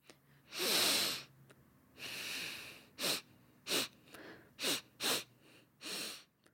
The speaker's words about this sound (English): That was the sound of someone sniffing something.